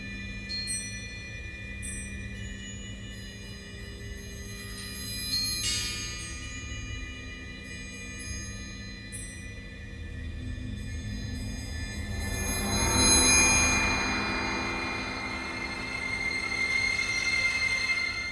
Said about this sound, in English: So what is this instrument? They're just wind chimes, actually. And I've been rather strict with my instructions on the score as to what type they must be. I've specified wind chimes are to be metal and of the suburban garden variety.